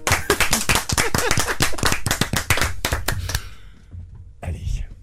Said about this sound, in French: Applaudissements pour